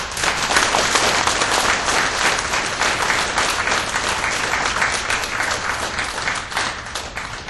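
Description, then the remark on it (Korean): A crowd applauds steadily, many hands clapping in a dense, even wash of sound that holds at a fairly loud level throughout with no talking. “다시 한번 우리 박수 좀.”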